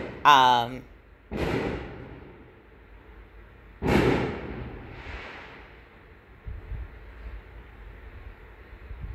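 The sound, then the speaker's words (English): Several fireworks boom outdoors in quick succession, each sharp burst trailing off into a rumbling echo, followed by quieter pops and a low background hum. “There's the fireworks, y'all. So I'm gonna try to talk in between them.”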